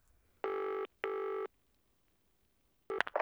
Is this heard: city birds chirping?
no